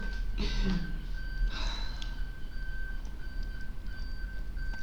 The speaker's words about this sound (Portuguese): Temos aqui uma coisa a apitar, desculpem. É uma coisa, um caminhão. Carro. Oh, amor, sei lá. Um carro, os carros não apitam assim.